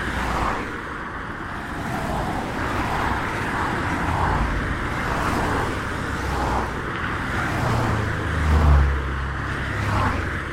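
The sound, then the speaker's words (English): Steady roar of busy traffic on the A14 main road, with vehicles swishing past continuously and one engine surging louder near the end, heard while someone tries to cross; no voices. “trying to cross the A14 here.”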